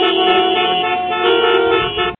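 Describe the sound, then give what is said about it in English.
A car horn blares loudly and without a break for about two seconds, a steady tone with other traffic noise rumbling faintly underneath before it cuts off abruptly. “Good evening, sounds like I'm in traffic, doesn't it?”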